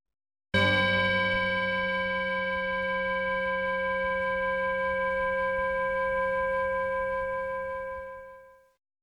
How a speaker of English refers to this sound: Let's sit. I'll try my bell, but I have a feeling it won't be audible.